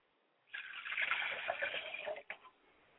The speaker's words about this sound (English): So we pour to the south going up.